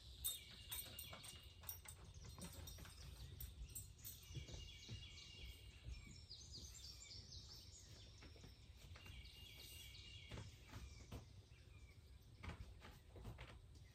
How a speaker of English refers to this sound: Well, as you can see, it's just me and the birds, and they kind of act as my sound studio. So I hope you won't be disturbed by any background noises from the different birds that are here in the yard at the old house.